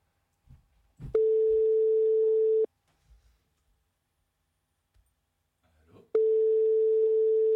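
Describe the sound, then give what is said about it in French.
A telephone ringing tone during a call to a woman who lives in Rennes: a steady, mid-pitched buzzing tone lasting about a second and a half, a pause of several seconds with faint thumps, then the tone returns. “Allez, baissez la musique, c'est parti, ça sonne.”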